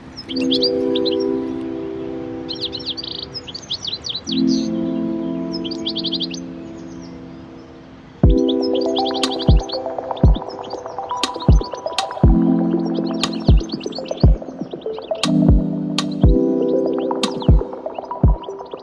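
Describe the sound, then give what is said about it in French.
Rapid high bird chirps and twitters repeat in bursts over a steady, humming tonal backdrop, with sharp rhythmic knocks joining partway through; no one speaks. “Et c'est vrai que cet oiseau, j'ai trouvé, il était magnifique.”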